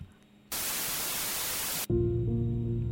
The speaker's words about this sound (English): Also, the length of that static sound would have definitely been guided by how long I had to get the episode to be, which is kind of ridiculous.